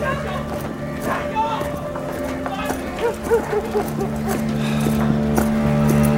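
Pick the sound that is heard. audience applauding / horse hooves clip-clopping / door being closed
horse hooves clip-clopping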